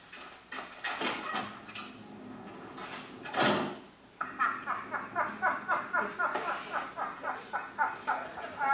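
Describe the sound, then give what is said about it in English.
A heavy door in a film scene grinds and scrapes open with a sharp whoosh, then a steady run of rhythmic mechanical clicks and clanks follows, loud, with no voices. “Well, I like how they have to open the magic door each time.”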